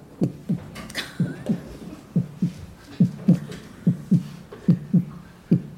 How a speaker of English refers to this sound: With snow, because winter came, and those drum beats started to get fainter, just like the grasshopper's heartbeat.